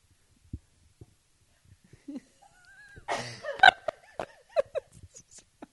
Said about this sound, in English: Like, I'm going to sneeze.